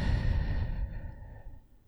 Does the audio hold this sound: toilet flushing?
no